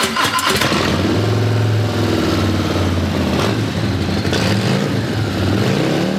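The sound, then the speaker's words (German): A Harley-Davidson Fat Bob motorcycle engine rumbles loudly and steadily, its deep throbbing note swelling and dipping as the throttle is blipped a few times, with no voices. “Ihr ganzer Stolz ist eine Harley-Davidson Fat Bob.”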